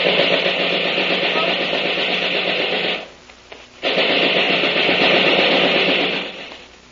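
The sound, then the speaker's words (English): Two long, loud bursts of rapid gunfire, a harsh continuous rattle of shots, broken by a brief pause of under a second before the second burst rattles on. “Put down that gun or I'll let you have it.”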